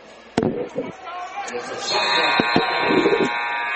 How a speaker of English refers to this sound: The 3 at the shot clock buzzer is no good.